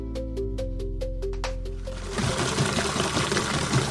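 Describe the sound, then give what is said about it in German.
A steady mechanical hum with rhythmic ticking gives way to loud rushing and sloshing as hot water is mixed with calf milk replacer to be poured into a calf milk bar, with no talking. “Mischen wir also heißes Wasser mit der Kälbermilch zusammen und das geben wir den jetzt in die Milchbar rein.”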